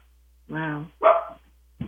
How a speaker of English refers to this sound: Ah, what did I hear? Whose dog was that? That was Miss Green.